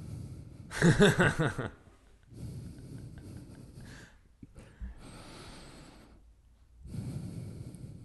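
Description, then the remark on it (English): Close, heavy breathing right into a microphone: a loud, rough burst of breath near the start, then several slower, softer inhales and exhales with brief pauses, no talking. “It just sounds like you're breathing heavily behind me, which is creepy.”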